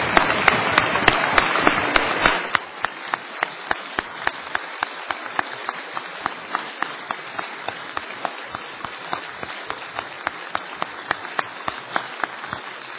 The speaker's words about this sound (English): So let's give them a round of applause again, please, all the students.